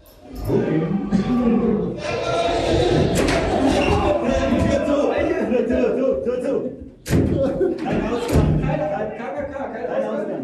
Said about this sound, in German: Also wenn der sich da mit der Maske vor die Tür stellt und dagegen wummert, ist man wirklich unter Stress innen drinne.